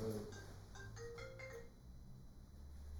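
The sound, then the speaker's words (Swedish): A new mobile phone's ringtone plays a short melodic run of bright electronic notes, fairly quiet, fading out after about a second and a half with no talking. “Jag har ny telefon”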